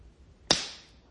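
hand slapping bare skin

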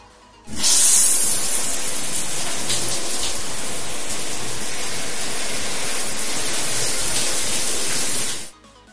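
shower water running

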